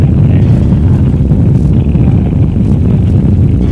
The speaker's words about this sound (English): We have ignition. All engines are running. We have liftoff. We have liftoff at 7 a.m.